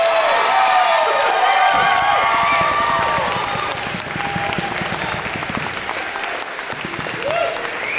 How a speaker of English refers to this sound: give a big round of applause to all of our amazing rock bands?